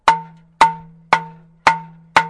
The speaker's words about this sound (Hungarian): És akkor a klopacska, meg is kongatjuk. Igen, milyen hangja van?